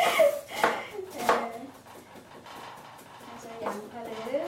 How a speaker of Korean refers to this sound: 썰고 있고 그래서 지금 잘 담고 있네요. 그릇 냄비에 빙 둘러서 담고 있고 이것은 조금 있다가 국물에 들어갈게요.